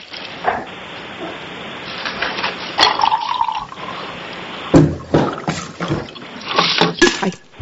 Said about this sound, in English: Go ahead and refill the water there.